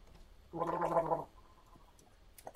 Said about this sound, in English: Did a gargle for you there. I heard. So, what did I just sip? That's one thing that would be in my top 10. I really like gargling with anything, any liquid. Do you? Love gargling. I think that was mouthwash. I had a sip of mouthwash.